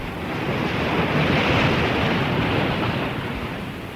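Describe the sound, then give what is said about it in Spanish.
A steady roar of surf swells up and slowly recedes, like a wave washing onto the seashore, loud with a broad hiss and no voices. “Y el príncipe echó la palangana al agua y se quedó esperando a orillas del mar.”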